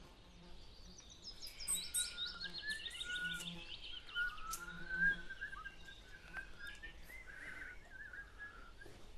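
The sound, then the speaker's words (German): Several birds sing and chirp at once in a forest, with layered whistled phrases and trills over a soft, steady background hush. “Im Wald angekommen, sagte die Mutter.”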